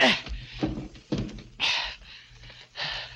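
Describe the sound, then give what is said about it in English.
A run of heavy thumps and scraping bumps, about five in quick succession, as furniture is dragged and piled against a door. No one speaks. “So I piled furniture against the door.”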